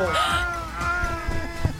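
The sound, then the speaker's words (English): A female cat in heat lets out a long, drawn-out, loud yowl with a wavering tone that slides and holds before breaking off near the end. “So that's the real life sounds of the cat that was keeping me up all night with her heat sounds.”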